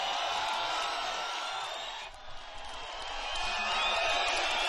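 A sold-out concert crowd at the Misty Moon Club in Halifax, Nova Scotia, cheers and whoops in a dense, sustained roar with scattered high shouts. The noise dips briefly about halfway, then swells back to full strength.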